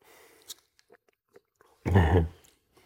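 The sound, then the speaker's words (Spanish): A water bottle is taken out and kept off a table holding books: a few faint taps and clicks of handling, then one loud, crinkly rustle of plastic lasting about half a second before it goes quiet. “a ver, voy a sacar el agua que la tengo aquí, pero no la dejo en la mesa porque estos libros son sagrados.”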